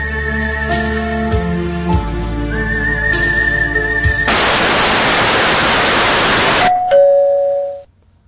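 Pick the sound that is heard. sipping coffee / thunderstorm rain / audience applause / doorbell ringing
doorbell ringing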